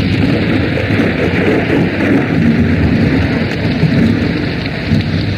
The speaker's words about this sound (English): Winter winds and rain bring slippery streets and slick highways.